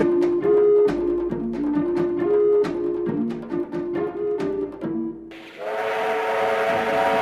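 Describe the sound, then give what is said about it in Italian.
A steam train chuffs in a steady rhythm while a whistle sounds over it, then a loud burst of hissing steam and a sustained whistle take over. Loud, with no voices. It is the Ombelico del Mondo steam train, which appears every morning. “Senti questo suono? È un treno a vapore.”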